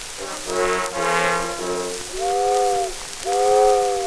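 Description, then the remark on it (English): A steamboat whistle sounds a long, chord-like blast with brief breaks, followed by two shorter, loud blasts that bend slightly in pitch, all over a faint steady hiss. “Listen, gal, to the steamboat whistle.”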